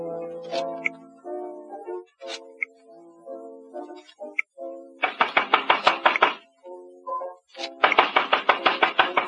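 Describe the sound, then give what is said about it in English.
Piano-like notes play, then two bursts of rapid, loud pounding on a door follow, each a quick run of about eight heavy blows, with a brief pause between them. “I'll just keep pounding.”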